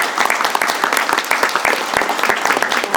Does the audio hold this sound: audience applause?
yes